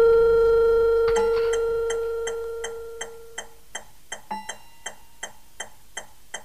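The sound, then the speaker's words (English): A steady electronic tone fades away, leaving a clock ticking alone in a quiet study, crisp and evenly spaced at a steady rhythm. “I spend most of the day pacing my study, staring at the clock.”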